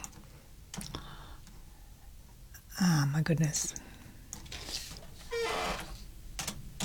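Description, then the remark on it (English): Scattered clicks of typing on a computer keyboard while cueing up the next song, fairly quiet, come in short irregular bursts while a voice briefly speaks over them. “I made a mistake in the typing.”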